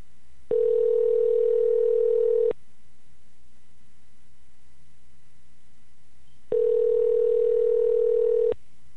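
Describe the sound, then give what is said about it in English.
Telephone ringing tone of an outgoing call placed to get a regular guest on the line: two steady, low-pitched electronic tones, each about two seconds long, separated by a roughly four-second silence, with no voices. “Give him a buzz right quick.”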